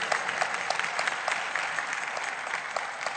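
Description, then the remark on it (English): A large group claps steadily for a few seconds, a dense, even wash of applause at moderate loudness with no voices standing out. “Come on, if we're going to clap, let's clap.”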